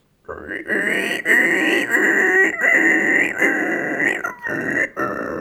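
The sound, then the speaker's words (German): A person imitates a water rail's call with a continuous run of loud, grunting, pig-like squeals lasting several seconds, with brief breaks between bursts. “Eine Wasserralle.”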